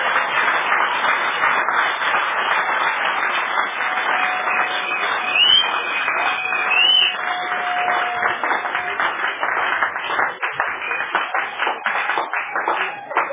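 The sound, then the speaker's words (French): An audience applauds steadily for over thirteen seconds, a dense, even wash of many hands clapping at a constant level, with faint sustained tones drifting underneath. “Applaudissez donc pour l'Esprit Saint qui révèle ça sur le champ.”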